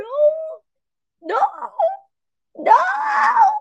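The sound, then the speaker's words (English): A drowsy cat, just woken from sleeping on a person's lap, grumbles in three drawn-out, moaning vocalizations with short pauses between them, the last one longest and fullest, with no other sound around. “I'm sorry, did I wake you up?”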